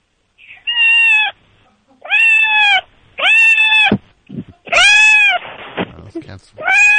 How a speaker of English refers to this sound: Did you hear it? I did hear that. That was a good meow, right? And now she's purring. Let's hear the purring. Well, she meowed again.